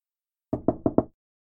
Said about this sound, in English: Oh, hi. This was a nice surprise. A lovely young lady knocking at my door.